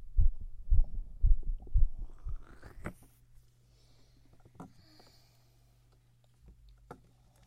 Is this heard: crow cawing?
no